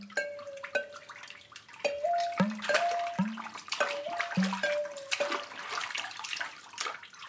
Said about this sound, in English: So the water percussion element, that was entirely new.